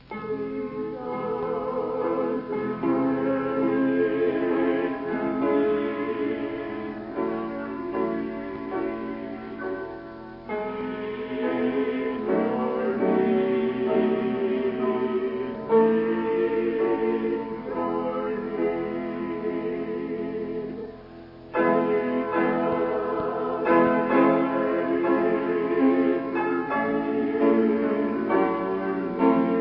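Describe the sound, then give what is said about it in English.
A mixed quartet sings a short chorus during a prayer, in sustained, harmonized phrases, steady and fairly loud, with a couple of brief breathing pauses between lines. “listen while the mixed quartet sing that little chorus, then you're going to sing it with us.”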